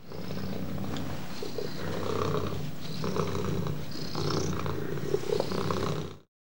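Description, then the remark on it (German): A cat purrs in a steady, rhythmic rumble that pulses with each breath, continuing without pause for about six seconds before cutting off. “Und was machen Katzen noch, wenn es ihnen gut geht? Rrrr, sie schnurren.”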